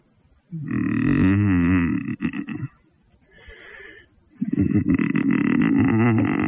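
A man hums for the perforation tear resistance of his toilet paper, letting out two long, loud, low guttural growls with a rough, rattling buzz, separated by a quieter breathy pause; no speech is heard.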